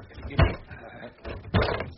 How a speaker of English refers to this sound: Like so many overgrown schoolboys, we tumbled out of the box room and rushed downstairs again to await the opening of his lordship's study door.